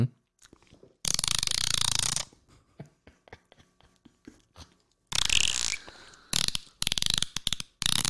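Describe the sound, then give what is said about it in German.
A voice imitates a dolphin, alternating rapid ratchet-like clicking with loud bursts of harsh, hissing squeals. No words are spoken. “Brutal, das hört sich echt an wie ein Delfin.”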